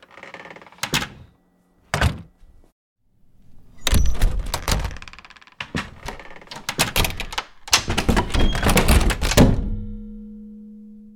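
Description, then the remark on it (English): Three different doors shutting one after another: two sharp, solid thunks first, then longer bursts of rattling latch and slam, ending in a heavy close with a low hum trailing off. “So I'm going to show you three different doors and how they sound differently. A big deal is how doors sound when they shut.”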